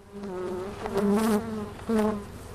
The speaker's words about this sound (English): Deep in a sunny Silver Lake backyard, 50,000 Western honeybees are adjusting to a brand new hive.